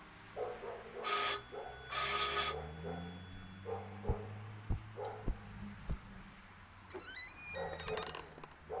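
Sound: doorbell ringing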